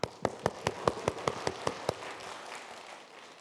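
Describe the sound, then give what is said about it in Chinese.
A group claps in steady unison, about nine sharp, evenly spaced beats, applauding a group leader who wrote song lyrics, then the clapping gives way to a soft, fading wash of noise. No one speaks. “哎呦，我组长写的，谁是组长啊？给他鼓掌。”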